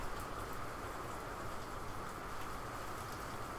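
Steady, even hiss of rain falling outside, a dense wash of noise with no distinct drops standing out, continuous and moderately quiet with no voices.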